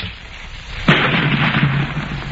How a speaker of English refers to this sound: And now we drink to science at the sound of the spark-fired cannon.